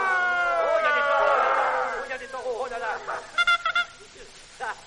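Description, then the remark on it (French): Human voices imitate cows, letting out long, wavering moos that swell and slide in pitch, then break into shorter, choppier calls near the end, loud. “Donc, également la vache. Ah, la vache. Allez, les vaches, là.”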